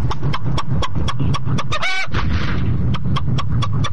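A hen clucks in a quick, steady series of short clucks, broken midway by a brief higher squawk, fairly loud over a constant low background rumble.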